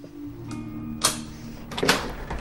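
Someone knocks on an apartment door: a single sharp rap, then a quick cluster of firmer knocks, with a steady low hum underneath and no voices.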